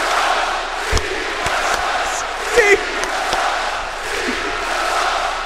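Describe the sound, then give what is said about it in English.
A large wrestling crowd roars and cheers steadily, a dense wall of voices with a few sharp thuds and claps cutting through. A brief spoken word is heard over the noise. “Oh, this crowd rules!”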